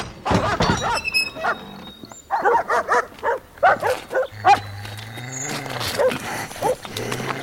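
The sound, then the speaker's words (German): Several dogs bark in loud, overlapping bursts while being fed raw kidneys, a rapid irregular chorus of barks with some growling undertones and no one speaking. “Was machen Sie mit meinen Hunden? Sie vergiften sie.”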